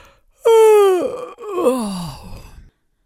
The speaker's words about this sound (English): one of the sloths replied with a yawn.